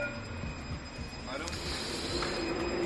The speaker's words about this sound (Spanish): El sonido de un tranvía. La Consejería de Fomento inició anoche las pruebas del tranvía de Jaén en su recorrido completo, desde las cocheras en Vaciacostales hasta el paseo de la estación.